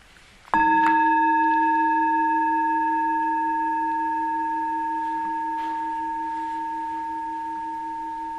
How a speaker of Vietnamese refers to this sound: Chính giữa hai tiếng chuông không có âm thanh gì hết, mà mình phải biết mình đang nghe.